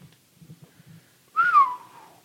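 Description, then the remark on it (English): A single loud, sharp whistle rises briefly and then slides downward, lasting under a second, preceded by a few soft low murmurs in the background. “It's a hell of a whistle.”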